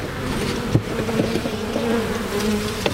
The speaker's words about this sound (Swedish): jag står här i Ytterby i Kungälv på en trädgård. Och det är i alla fall ett par hundratals bin som flyger runt här.